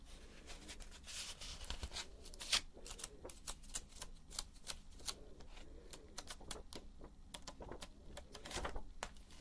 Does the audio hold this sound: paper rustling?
yes